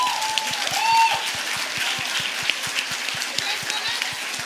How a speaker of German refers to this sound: Beide mal aufstehen. Großen Applaus für die beiden.